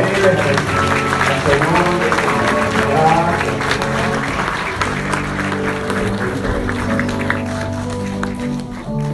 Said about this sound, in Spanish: Da un aplauso fuerte al Señor.